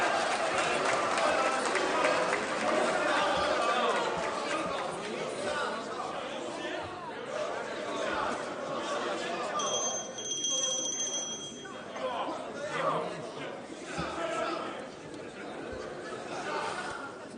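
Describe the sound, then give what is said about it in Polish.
Members of the Polish Sejm shout and heckle over one another in a dense, continuous crowd roar of overlapping voices as government representative Michał Kołodziejczak, secretary of state in the Ministry of Agriculture, takes the floor, with a brief high electronic tone sounding partway through. “Możecie sobie tak krzyczeć i pokrzykiwać.”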